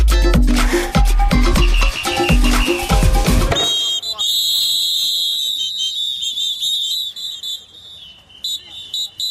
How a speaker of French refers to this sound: Une manifestation d'arbitres sifflés à la bouche, vous l'entendez, c'est rare et assez triste aussi pour être souligné. C'était une manifestation d'une centaine d'hommes en noir qui s'est déroulée à Mont-Saint-Barœul, c'est près de Lille, à l'automne